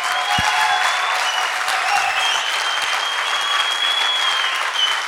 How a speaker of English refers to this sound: Okay, we're gonna stand up and we're gonna applaud her for what she's done now. Okay? Amen.